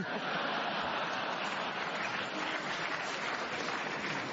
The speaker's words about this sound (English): I don't know why the audience applaud that.